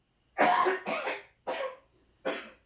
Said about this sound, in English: I'm gonna be coughing.